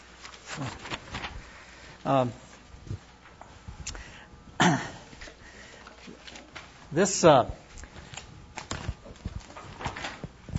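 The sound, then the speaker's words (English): Paper handouts being passed around rustle and shuffle in a few sharp, crinkly bursts spread across the moment, fairly loud, with quiet room noise and faint voices between them. “I'm really loading you down with paper today here. Whoops. There you go. Pass those around.”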